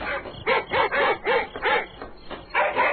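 Several dogs bark in a rapid, overlapping series of sharp, yelping calls, fairly loud, with no one speaking.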